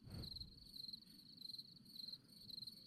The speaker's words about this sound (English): What the hell is that sound, man? Sounds like a goddamn cricket.